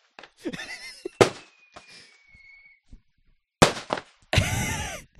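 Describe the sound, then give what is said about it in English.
Fireworks burst overhead with sharp loud bangs, one after another, and a long whistling streak rises between them, ending in a sustained crackling barrage. “Okay, there are actually fireworks going off like above our heads.”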